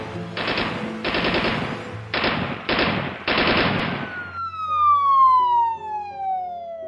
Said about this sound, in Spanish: Durante 44 minutos, Phillips y Matasaranu continuaron enfrentándose a los agentes, disparando ráfagas esporádicas contra las patrullas que estaban frente al banco y en el estacionamiento al otro lado de la calle.